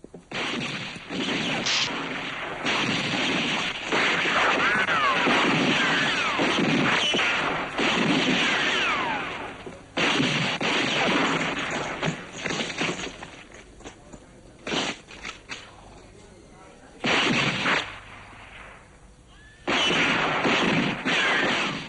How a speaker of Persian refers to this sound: شلیک کافیه.